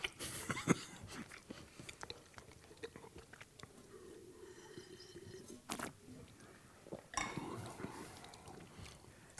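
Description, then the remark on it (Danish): Chewing of a mouthful of food with a fair amount of red cabbage, with irregular crunchy clicks and wet mouth sounds repeating throughout, a few louder crisp bursts standing out. “Ja, og fik jeg sådan en bid med relativt meget, hvad hedder den, rødkålen der.”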